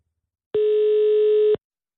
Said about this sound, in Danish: Lidt dybere ringetone.